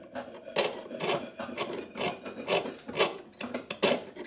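Steady back-and-forth filing on metal in a small goldsmith's workshop during a children's jewellery-making course, about eight to nine rasping strokes in an even rhythm, each a bright scratchy burst, moderately loud with no talking.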